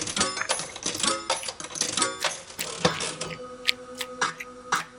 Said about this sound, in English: Keep tearing that pussy up while I roll the dice.